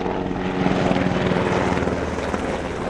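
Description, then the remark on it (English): A helicopter passes overhead in the Valley with a steady, loud rotor chop and engine drone that fills the whole stretch, its rhythmic thumping constant with no voices. “But, you know, every day we have helicopters flying over us.”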